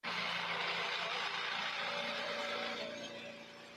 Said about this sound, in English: Oh, here it is. This is in the generator. They have it hooked up to a generator.